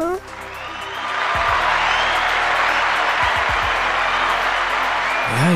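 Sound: applause sound effect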